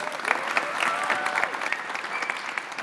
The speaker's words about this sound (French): Un peu de joie, on applaudit le Seigneur qui est là avec nous.